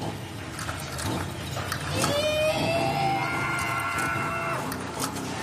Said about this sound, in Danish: der her løfter en Fiat 500 30 cm over jorden frit svævende, kun via sin muskulatur i væggene. Det er fantastisk.